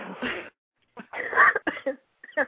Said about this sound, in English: And hope your coughing gets better.